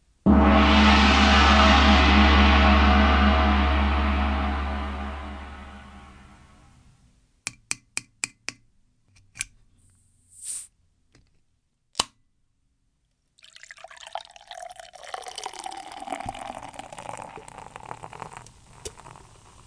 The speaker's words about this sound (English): And this one has mango added. Oh, mango. Let's open this can up, but first I need to transition to the beer mic.